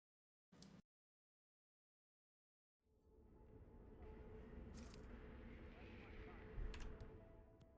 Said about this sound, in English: Why are you coming this way? I threw the coin over there.